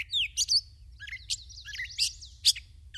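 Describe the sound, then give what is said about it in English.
A gray catbird sings a rapid, jumbled string of squeaky chirps, whistles and warbled notes, clear, with a low hum running underneath. “As part of the competition, the two combatants sing their way to higher and higher perches.”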